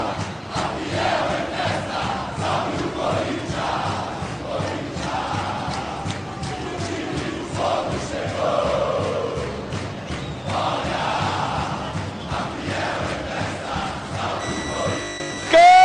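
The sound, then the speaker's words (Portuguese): A huge stadium crowd of Corinthians supporters, the Fiel Torcida, chants and sings in unison at the Mineirão during a football match against Cruzeiro, with Corinthians leading 1-0. The chanting is loud and sustained with rhythmic pulses, a roaring wall of voices throughout. “Sinto o clima da Fiel Torcida, Mineirão calado, olha só, Fiel Torcida, que show!”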